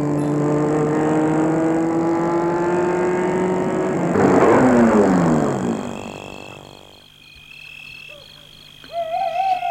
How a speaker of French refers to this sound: La voiture s'est arrêtée dans une rue déserte, bien près d'un chantier d'immeubles.